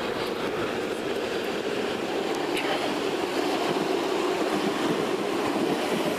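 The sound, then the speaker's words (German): Two S-Bahn commuter trains rumble past, a steady, loud roar of wheels on track with faint rhythmic clatter and a brief high squeal, filling the whole stretch without letting up. “Was effektiv heißt, dass hier gleich zwei S-Bahnen kommen.”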